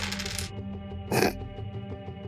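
Three six-sided dice clatter across a hard tabletop in a short burst, then a second quick rattle follows about a second later, both fairly crisp, with no voices; two of the dice come up ones.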